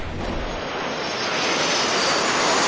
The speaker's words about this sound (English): Tanker drops that have been flying over at treetop level. Tankers whisking above the tree line, dumping retardant by the thousands of gallons to meet the advancing flames.